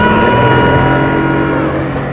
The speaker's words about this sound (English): Is Levi water skiing? Who's driving the boat?